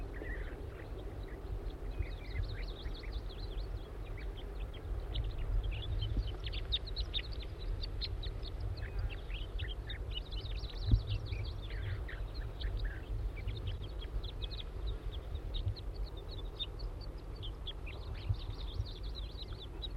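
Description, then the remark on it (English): Thin, high calls of a juvenile wild bird repeat steadily throughout, chirping in loose clusters over a constant low rumble, with no voices present. “It's recording the juvenile again.”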